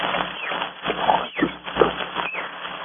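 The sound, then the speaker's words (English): Monkeys chatter and screech in a dense, continuous jumble of calls, with several sharper cries rising over a busy jungle background at moderate loudness. No one speaks. “Monkeys, those crazy monkeys, I could strangle them.”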